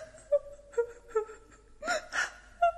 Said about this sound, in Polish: Wyraźnie dziecko płacze.